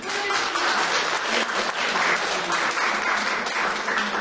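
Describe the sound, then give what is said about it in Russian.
Steady audience applause at a classical music concert fills the whole stretch, a dense crowd of clapping hands at even loudness, with no individual voices standing out. “Еще раз овации.”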